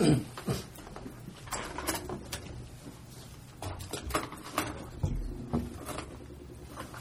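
A mobility scooter shifts position as a hard-of-hearing person moves it to sit in a chair during public comment at a meeting, with a low rumble under scattered clicks, knocks and shuffling bumps, followed by a brief stretch of quieter movement.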